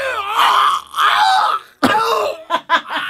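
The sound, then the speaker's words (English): A voice imitates a car that has been screaming for about a month whenever it is started: a long, strained, wavering whine, then an abrupt harsh burst followed by two short sputtering pulses. “It was a weird screaming sound. It's been happening for about a month.”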